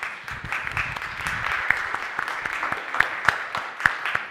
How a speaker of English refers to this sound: And I think a round of applause would be appropriate.